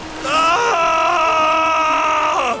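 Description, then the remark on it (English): A man leaps out of the water onto land and lets out one long, loud primal scream, held steady for about two seconds, with a sharp rise at the start and a falling break at the end. “… leapt out of the water and let out a primal scream.”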